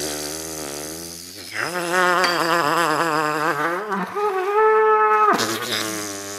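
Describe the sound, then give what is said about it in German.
A buzzy, reedy melody is blown on a boiled, hollowed-out animal horn that has no holes, keys or slide. The wavering melody slides between a few pitches with rich overtones, then holds a steady higher note before dropping back down. No one speaks. “setzt das Horn an seinen Mund und pustet rein.”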